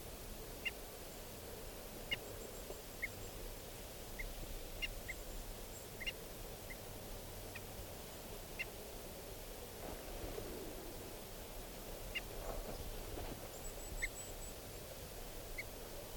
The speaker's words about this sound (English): And the decoys are giving alarm calls. This is the alarm of 395. There's an osprey flying around here.